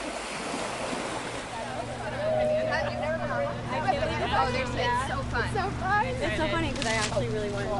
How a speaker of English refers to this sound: Me and seven other girls got the chance to go on a banana boat. Oh, let's do it. It was a way to get with the girls and just let loose. People were flying off. Like, we were just dying laughing the whole time.